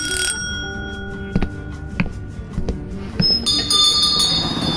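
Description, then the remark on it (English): A shop's doorbell rings at 6:30 after the store has closed, with bright, ringing tones, briefly at the start and again more fully near the end, with a few sharp clicks and taps in between. No one speaks. “The following day, at 6:30, after his store had closed, Philippe's doorbell rang.”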